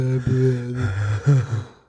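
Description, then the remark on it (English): Sharp, voiced intakes of breath, fairly loud, coming as a couple of quick gasps in under two seconds with no speech. “Breathing.”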